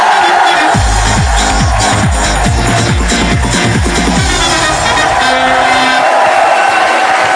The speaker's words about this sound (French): Je vous demande d'applaudir dans le fauteuil de la méthode,